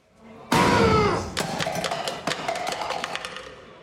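A fist slams down on a shelf with one loud, sharp bang and a ringing metallic tone that fades, followed by a scatter of quieter clattering knocks and rattles.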